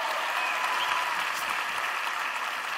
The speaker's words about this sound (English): Stand up. Let's clap it up for him.